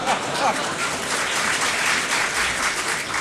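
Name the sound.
audience applause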